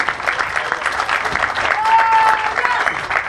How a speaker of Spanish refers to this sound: aquí estudiantes, porque hay estudiantes aquí, un aplauso para los estudiantes de la UNAM que están aquí.